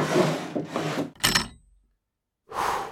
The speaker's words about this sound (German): Dann ging er ans Ende des Fasses, wo das riesige Bett stand, kniete sich hin und zog einen großen, dunklen Holzkasten unter dem Bett hervor.